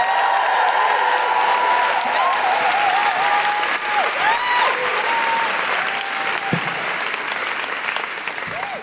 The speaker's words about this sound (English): please join me in giving a huge, huge, huge welcome and round of applause for our last act of the night, who's going to blow the roof off this place.